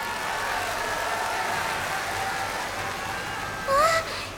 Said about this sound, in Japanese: 温かい拍手ありがとうございます。